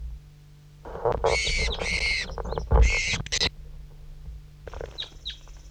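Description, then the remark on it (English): Several loud, high-pitched bird chirps and squawks burst out in a cluster during the first half, followed by a few fainter short chirps near the end over low background rumble; one chirp comes from one bird and the rest from a bird numbered 5-3. “That was one chirp by him and then some by 5-3.”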